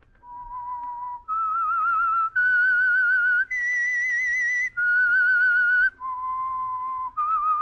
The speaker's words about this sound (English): As always, Mr. Benny, themed by the real Whistler, will sound like this. That whistle is your signal for the Signal Oil Program, The Whistler.